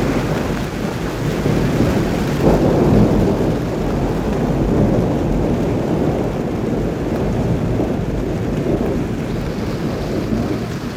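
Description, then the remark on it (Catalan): Heavy rain pours down steadily in a dense, continuous roar, with deep rumbling thunder rolling underneath throughout. No voices are heard. “I va començar a ploure molt i molt.”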